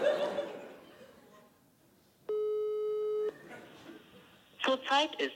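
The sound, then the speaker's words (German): A single steady telephone ringback tone lasts about a second, clear and fairly loud, between stretches of people talking and laughing. “Bitte geh nicht ran. Drei ist zu lang. Niemand geht nach 3 noch ran.”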